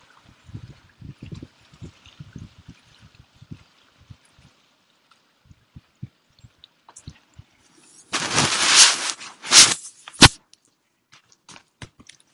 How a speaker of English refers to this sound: So high tide and breezy, and it might rain in a while.